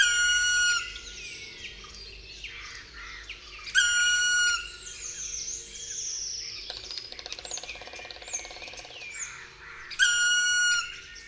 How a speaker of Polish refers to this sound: Spokojny ptak siedzący na wierzchołku drzewa wydaje przed odlotem przeciągłą, płaczliwą sylabę.